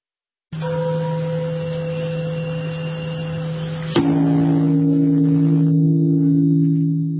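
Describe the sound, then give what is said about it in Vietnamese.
A deep Buddhist temple bell in the main hall of Bổ Châu pagoda in Pleiku, Gia Lai province, Vietnam, is struck, its low humming tone ringing on steadily, then a second strike around midway renews the resonant drone, which lingers without any voices. “Tiếng chuông chùa ngân vang từ chánh điện chùa Bổ Châu tôn nghiêm.”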